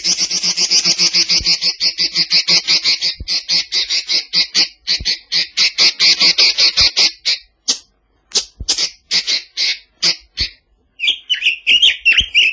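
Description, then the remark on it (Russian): A Chinese nightingale, with an orange beak, a yellow breast with a reddish spot and greenish wing feathers, gives a loud call: rapid, repeated chattering notes in fast bursts, broken by brief pauses, ending in a higher twittering phrase, with no voices. “Это китайский соловей. Вот клич его.”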